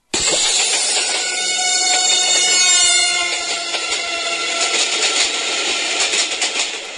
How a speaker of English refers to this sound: The sound begins at just above G as the train approaches and falls to approximately an F sharp as the train travels away.